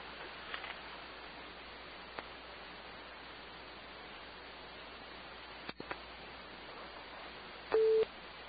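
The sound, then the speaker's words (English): A single short electronic beep of a telephone call-waiting tone sounds near the end, clear above a steady hiss of phone-line static, with a few faint clicks earlier and no talking. “That was so weird because I just got another beep when you were checking yours.”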